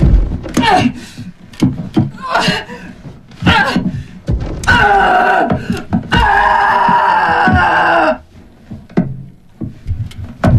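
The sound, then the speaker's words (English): Heavy, dull thuds land one after another in an irregular rhythm as shovelfuls of earth drop onto a wooden coffin with a woman inside, mixed with loud, strained vocal cries. “Flinching with each shovelful of earth, she bangs her head against the coffin base.”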